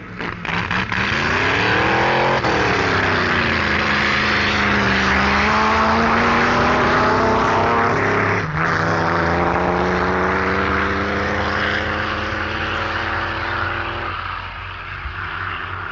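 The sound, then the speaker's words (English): Loud engine roar of drag racing cars, Herridge's Buick dragster against Hill's, accelerating hard down the strip, the pitch climbing in sweeping bursts as gears change, sustained throughout with no voices. “Herridge's Buick dragster turned a 13.48 ET against Hill's 14.65.”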